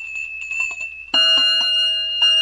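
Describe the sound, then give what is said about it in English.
A fire engine bell clangs loudly several times in quick, uneven strikes, each hit ringing on brightly, after a thin steady tone fades out beforehand. No one speaks. “Then I rang my bell.”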